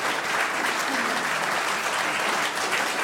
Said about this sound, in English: Yes, round of applause.